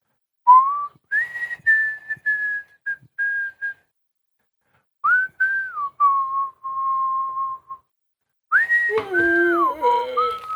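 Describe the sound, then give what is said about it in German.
A person whistles a simple tune alone to fill time while the other speaker briefly steps away, with sustained clear notes in short phrases separated by pauses, ending with a few more wavering, breathy notes. “Ich pfeife ein Lied, so lange.”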